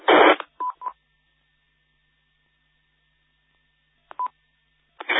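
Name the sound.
radio static noise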